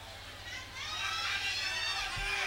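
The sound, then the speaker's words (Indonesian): A crowd shouts and cheers, many voices overlapping in a dense, sustained roar that swells louder partway through and stays high to the end. “Teriakan-teriakannya oke ya?”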